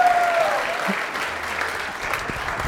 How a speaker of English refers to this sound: Clap for me, thank you.